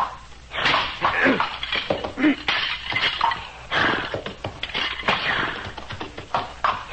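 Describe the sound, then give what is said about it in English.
Repeated hard chopping blows crack against something solid, fairly loud, in an irregular series with brief scraping and splintering between strikes, as a tomahawk breaks the brittle locked antlers of a dead moose. “I will break the antlers of the dead one with my tomahawk.”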